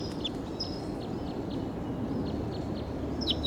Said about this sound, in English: Wild bird calling loud in the distance, pointed in the direction of the wild bird.